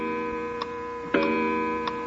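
An old, wound, weight-driven mechanical clock ticks steadily, with sharp, evenly spaced ticks over a continuous steady hum, moderately loud, with no voices present.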